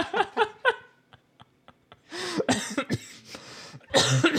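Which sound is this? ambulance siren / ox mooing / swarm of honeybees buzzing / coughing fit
coughing fit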